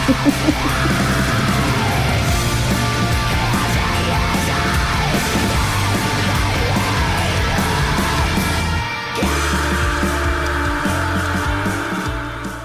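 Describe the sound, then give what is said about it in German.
Harsh, screamed vocals ride over a loud, dense band playing a heavy song, the shouting continuing throughout with only a brief dip in the music near the end. “Das ist Gesang.”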